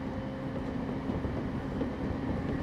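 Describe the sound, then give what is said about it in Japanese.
Steady low rumble of a moving train heard from inside the carriage, a continuous dense drone with faint rattling and a thin steady hum, no voices. “さっきの駅で割と人が乗ってきたわね。”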